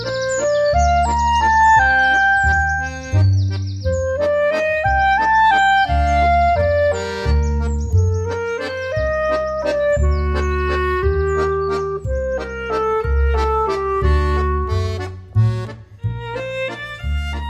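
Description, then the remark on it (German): Continuous birdsong played from a bird-song CD, with melodic whistled phrases and chirps overlapping at a steady, fairly loud level, alongside a low rumbling background throughout. No one speaks. “Also ich habe jetzt mal eine Vogelstimmen-CD gekauft, versuche ihn zu vermitteln.”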